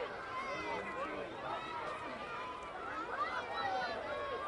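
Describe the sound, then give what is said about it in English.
A crowd of kids clamoring in ballpark stands during a baseball game, as water balloons are tossed down to them, a steady wash of overlapping high-pitched shouts and chatter that holds at an even, fairly loud level throughout. “You hear the kids, they are clamoring.”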